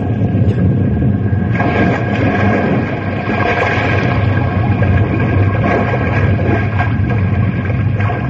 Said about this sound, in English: She's gone. She's cracking. That's that, Dennett. This here iceberg is cracking in two.